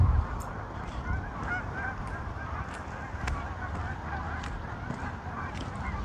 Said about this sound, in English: Big gaggle of geese here. I love that sound.